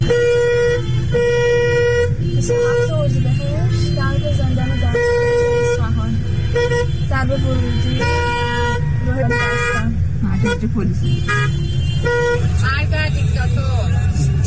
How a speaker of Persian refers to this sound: ورودی زندان بستن نمیذارن کسی سمت زندان بره، با ماشین بستن ورودی زندان. فقط ترافیک جلوی زندان دستگرد رو نگاه کنید، تازه هنوز اینجا نرسیده به زندانه.